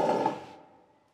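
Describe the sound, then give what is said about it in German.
A door upstairs in a castle creaks open in one short, grinding sweep, starting strong and fading into a thin lingering squeak within about a second. Nothing else is heard. “Oben im Schloss öffnet sich knarzend eine Tür.”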